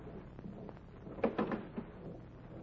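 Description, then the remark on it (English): A door being opened: a short cluster of wooden knocks and latch rattles, moderately loud, over a low steady background with no voices. “Well, open the door.”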